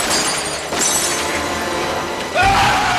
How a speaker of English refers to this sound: He smashes a window with his handgun.